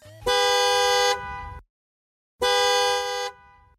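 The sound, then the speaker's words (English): An arcade machine emits the sound of a distant car horn: two long, steady honks separated by a brief pause, each held for about a second with a bright, buzzy tone and no voices present. “Before time completely ran out, the arcade machine emitted the realistic sound of a distant car horn, reminiscent of an impatient parent waiting for the kid to leave her friend's house.”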